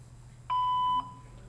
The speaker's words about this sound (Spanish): Por favor, deja tu mensaje después del tono.